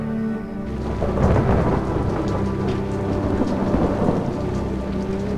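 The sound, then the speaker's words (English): Heavy rain pours down steadily outside a window, a dense hiss of drops with low rumbling underneath, continuous and fairly loud for the whole stretch. “Now rain pours down outside a window.”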